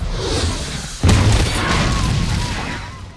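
A steady rushing hiss of a shoulder-launched rocket fired by Darius at a car in a paddock is cut off by a sudden loud explosive boom, followed by a long roaring rumble and crackling debris that slowly fades.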